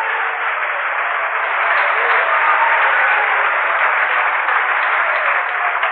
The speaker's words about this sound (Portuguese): As palmas são louvores a Deus.